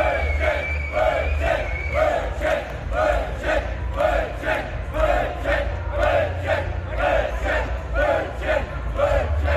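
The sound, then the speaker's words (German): A large festival crowd chants in unison, a steady rhythmic call repeating roughly twice per second with loud, even pulses over a constant low rumble of many voices. “Diese schöne Dynamik auf Festivals.”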